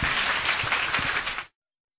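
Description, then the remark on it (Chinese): Steady audience applause, a dense wash of many hands clapping at even loudness for about a second and a half before cutting off abruptly into silence. No voices are heard. “我们给他一个掌声好不好？”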